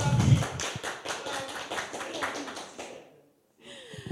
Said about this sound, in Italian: Partono gli applausi perché anche oggi abbiamo il nostro bel pubblico nello spazio non conforme di Via Cervi a Cagliari.